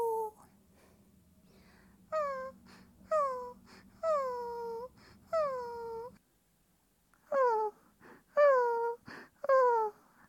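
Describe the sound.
A person imitates a dog whining and howling: a series of about seven high, falling, nasal whimpers in two bursts separated by a short pause, fairly loud.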